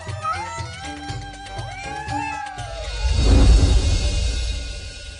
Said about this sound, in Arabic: دعونا نكرم أصحاب الفضل ونطعمهم أفضل الطعام ونسقيهم اللبن. إنها القطط البواسل.